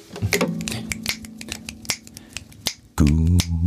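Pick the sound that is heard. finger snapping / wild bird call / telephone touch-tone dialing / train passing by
finger snapping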